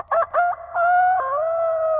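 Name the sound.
rooster crowing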